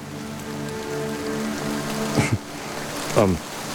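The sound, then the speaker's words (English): Steady rain hisses throughout over a low droning hum, with two brief louder splashes or knocks near the end, no voices. “I forgot about rain.”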